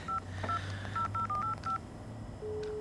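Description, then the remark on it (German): A telephone number is keyed in to call the caretaker, as a quick run of about seven short, beeping touch-tones at an uneven pace, ending in a steady low tone over a faint background hum. “wähl die Nummer.”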